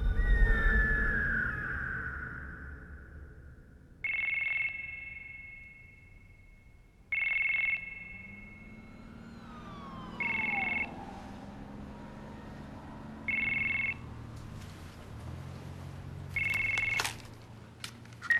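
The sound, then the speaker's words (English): A phone rings five times at steady intervals, each ring a short bright electronic trill, clear over a quiet low background hum. No one speaks. “She comes to on the couch, the empty wine bottle still on the table, her phone on her lap.”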